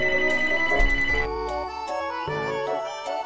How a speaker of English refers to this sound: I hate it when I forget to turn off my phone before I start podcasting.